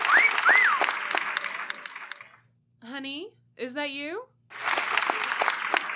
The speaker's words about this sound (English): Do you hear it? It's weird. It sounds like an audience clapping. I don't hear anything. No, it's gone now. Did you hear it? It was just there. It only happens when I enter a room others are already in.